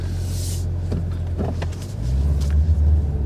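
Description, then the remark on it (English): The engine of a car with a standard transmission hums steadily with a deep, low drone as it gets going, rising slightly in pitch and loudness partway through, with a few faint clicks and mechanical sounds layered over it. “Listen to that hum. That's a nice hum.”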